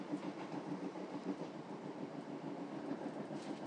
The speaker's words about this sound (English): I'm not sure that I would experience this kind of quiet on a train in all parts of the country.